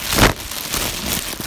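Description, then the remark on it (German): A crinkly plastic bag is rustled to imitate a crackling oven, with a loud burst of crackling at the start followed by steady, softer scrunching and no one speaking. “Und zu guter Letzt brauchen wir eine Tüte.”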